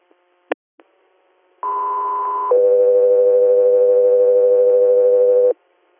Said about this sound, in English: Jessica 3 Air, stand by for tones.